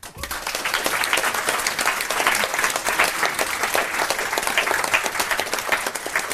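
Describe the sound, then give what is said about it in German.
An audience applauds a contest winner, many hands clapping in a dense, fast patter that holds at an even, fairly loud level throughout, with no voices standing out. “Ja, wir haben einen Sieger. Nochmal einen Applaus.”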